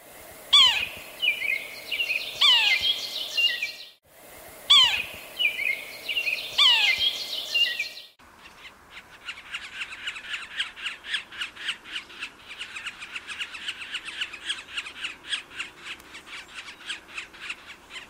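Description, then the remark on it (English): A yellow-bellied sapsucker gives clear, nasal mewing calls, each repeated in two bursts, followed by a long run of rapid, scratchy kwee-ah notes. The bird is loud, with no talking. “The yellow-bellied sapsucker makes a mewing noise that is normally repeated more than once, as well as a repeated kwee-ah noise”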